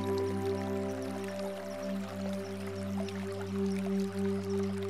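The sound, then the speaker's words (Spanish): Gentle running water of a softly flowing stream trickles and drips steadily throughout, soft droplet sounds scattered over a continuous low, humming drone with no speech. “Sea consciente del sonido del agua que está corriendo.”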